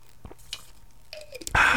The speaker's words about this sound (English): And do you mind if I have a sip of water here?